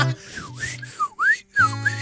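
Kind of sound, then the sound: human body sound, person whistling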